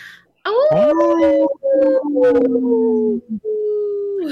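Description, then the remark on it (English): A wolf howls in long, sustained, wavering tones that slide slowly downward, broken by a few brief pauses. The howl is loud, with no talking. “Hey, this portion of the show, we'd like to bring awareness to our Minnesota wolf population.”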